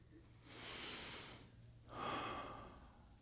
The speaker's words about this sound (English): Grace, in the simple act of breathing.